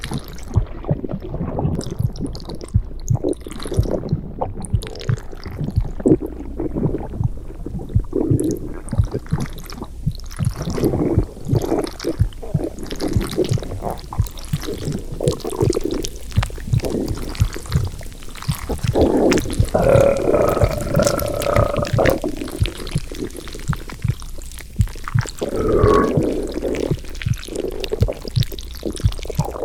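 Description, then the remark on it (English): Steady stomach gurgling during digestion fills the whole stretch: low wet rumbles, squelches and bubbling surges that rise and fade without pause, with no voices. “You're digesting so nicely already.”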